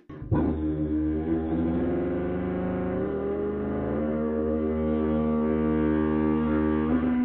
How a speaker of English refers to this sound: I'm going to demonstrate what's called multiphonics, where you can sing a note and play a note at the same time.